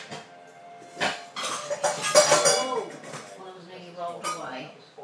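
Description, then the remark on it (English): Cat dishes clatter as they tumble out, a burst of clanking and rattling that rises in the first seconds, then settles into a few lighter clinks and shuffling. “Some cat dishes falling out.”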